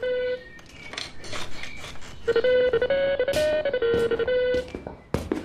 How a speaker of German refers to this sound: Doch das plötzliche Klingeln seines Telefons reißt ihn aus den wohligen Gedanken eines verblassenen Traums.